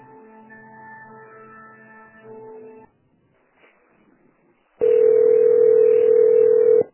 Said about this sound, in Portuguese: é porque o telefone está ocupado, então a ligação voltou para mim.